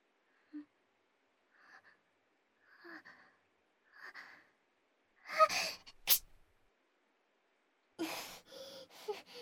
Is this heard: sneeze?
yes